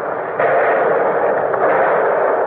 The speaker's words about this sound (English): Battle wagons are opening up. Sounds like 16 inches to me.